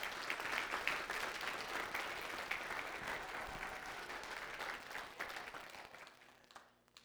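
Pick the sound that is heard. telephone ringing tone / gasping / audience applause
audience applause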